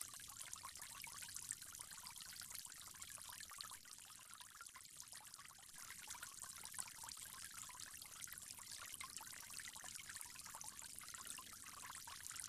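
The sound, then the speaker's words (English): Water pours in a steady, unbroken stream with a soft hiss and faint splashing, continuing evenly throughout, as someone performing ablution rinses the mouth three times. No one speaks. “From there, you'll go on to rinse your mouth three times.”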